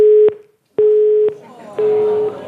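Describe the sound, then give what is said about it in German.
A telephone busy tone after a call dropped: three evenly spaced half-second beeps of a steady mid-pitched tone with short gaps, loud, with faint voices starting under the last beep. “Beim strahlenden Sonnenschein war das Telefon quasi abgeschaltet.”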